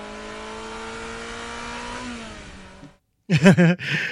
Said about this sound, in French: Pour prévenir les piétons du passage d'une voiture électrique, il fallait rajouter des samples et pas que le bip bip bip de marche arrière.